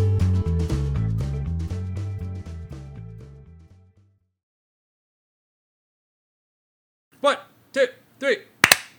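Bright music plays and fades to silence, then a group of people gives short rhythmic vocal shouts, ending in one loud, sharp group hand clap.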